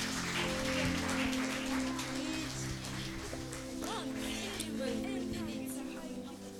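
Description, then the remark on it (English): A church audience applauds as a hand of praise to the Lord on a Sunday dedicated to children, with dense, steady clapping that holds for several seconds, over sustained low instrumental tones, with a few voices mixed in. “Give the Lord a mighty hand of praise again.”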